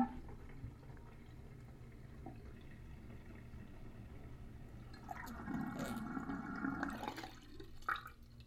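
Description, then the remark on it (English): Water drains out of a sink with a low, steady gurgling rush that swells midway and then gurgles out, with no one talking. “I guess that's all the water I need. And I wonder what it sounds like being let out.”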